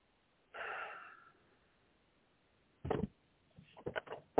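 A breathy gasp-like burst, then a short pause before a loud thump and a quick run of sharp clicks and rattles, like a door being bumped and its latch jostled.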